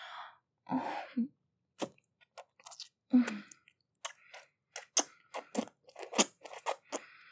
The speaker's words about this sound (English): Oh, the lovely slurps and wet socks. Does it feel as good as it sounds? Better than it sounds.